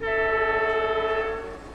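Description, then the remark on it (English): A train horn blares in one long, steady tone with strong harmonics, loud, over a low rumble of the train at Lugor Railway Station in the Gobi Desert, 100 kilometers from Xuan Chuan Zhe, then fades slightly at the end. “100 kilometers from Xuan Chuan Zhe, still deep in the Gobi Desert, is the Lugor Railway Station.”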